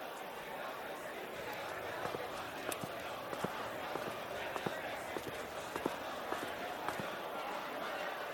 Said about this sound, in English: Oh, over there is a huge crowd of people. Young and old are beating on their chests.